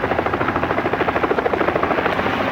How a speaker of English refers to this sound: This is a helicopter ambulance. Operated by the Victorian Division of the National Safety Council of Australia in conjunction with the Latrobe Valley District Ambulance Service.